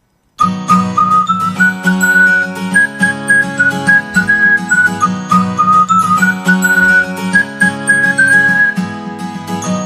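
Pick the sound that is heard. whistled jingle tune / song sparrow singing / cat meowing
whistled jingle tune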